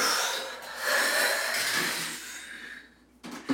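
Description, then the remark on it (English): A person doing a lung vacuum breathing exercise makes a long, strained, airy inhale with a hissing rasp that gradually fades, then a short burst of breath as the hold releases. Fairly loud, with no talking. “And then you work really hard, like you're breathing in, but you can't until you let go.”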